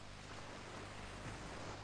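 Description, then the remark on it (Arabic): Heavy rain pours down in a steady, dense hiss with no pauses, a continuous wash of sound at low volume and nobody speaking. “يبدو أن مؤونتي قد تضررت بسبب هذا المطر الغزير.”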